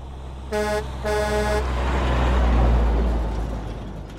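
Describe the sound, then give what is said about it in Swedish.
A red and yellow Volvo tow truck, a large truck with a 490-horsepower engine, gives two short, loud honks of its horn, then its heavy engine rumbles and swells as it drives past, fading slightly at the end. “Nu kör han med sin bärgningsbil.”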